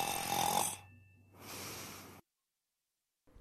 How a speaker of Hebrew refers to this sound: המלך נרדם. וואו, איזה נחירות. תמיד בתקופת האביב זה קורה לו. בגלל הפריחה, האף שלו נסתם לגמרי.